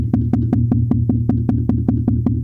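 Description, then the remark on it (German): A sudden racing heartbeat tapped out by hand, a normal pulse first and then sudden racing: roughly a dozen quick, evenly spaced knocks over a steady low hum, fairly loud, with no one talking. “Plötzliches Herzrasen wäre so, normal, der Puls zuerst und dann plötzliches Herzrasen”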